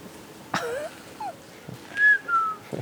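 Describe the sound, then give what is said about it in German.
A person whistles a few short, bright notes to call guinea fowl, including a rising-then-falling tone, with sharp clicks or taps in between against a quiet outdoor background. “Und für Perlhörner? Tun wir pfeifen.”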